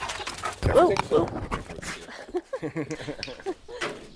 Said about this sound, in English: He has a couple of big German shepherds. You can hear one of them jumping into my mic.